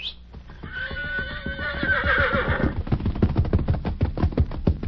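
A horse whinnies loudly for a couple of seconds, its wavering cry rising and falling, then gives way to a steady, rhythmic clatter of hooves close by.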